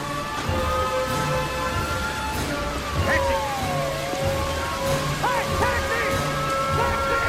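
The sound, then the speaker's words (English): Steady rain hisses throughout onto a rain-swept road opposite some shops, dense and even. Sustained traffic tones ring through it, with a wailing pitch that dips and rises again midway. “Dashes across the rain-swept road and heads in through a doorway between shop fronts.”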